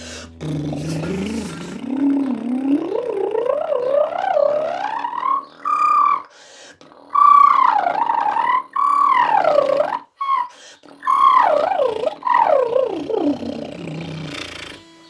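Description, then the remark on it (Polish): A voice does a bubbling, fluttering lip-trill warm-up exercise that slides steadily upward from low to high pitch, then glides back down with a few brief breaks, sustained and fairly loud. “A teraz winda na bulgotaniu.”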